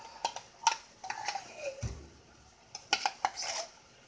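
Cans are being opened with a hand can opener: a string of sharp metallic clicks and scrapes with a dull thump midway, set against quiet surroundings and no talking.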